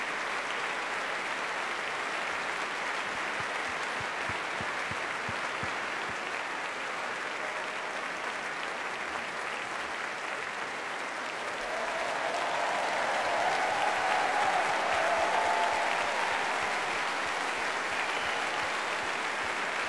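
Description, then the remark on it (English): Steady, dense applause from a large audience for the Aurora Orchestra carries on for the whole stretch, swelling louder partway through, with a few faint cheers or whistles rising above the clapping. “And a huge round of applause, please, to our very own Aurora Orchestra.”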